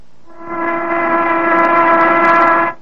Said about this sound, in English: Or take that factory whistle which blew noon a while back.